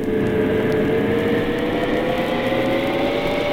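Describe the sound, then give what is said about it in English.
A submarine diving, a sound effect from a record, travelling to Port Said, heard as a steady, loud mechanical drone with humming tonal layers and a faintly rising pitch, continuous throughout with no voices. “This next track is called …. A submarine offers a unique mode of travel to Port Said.”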